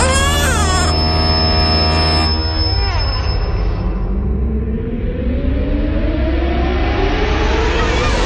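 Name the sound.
baby crying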